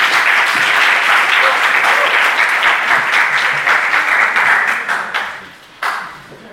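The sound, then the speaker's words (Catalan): An audience applauds a conference talk at the University of Girona with dense, steady clapping that holds strong for about five seconds, then tapers off, with a brief final burst of claps before fading. “Aleshores, feta aquesta mini presentació, sisplau, un gran aplaudiment per la conferència.”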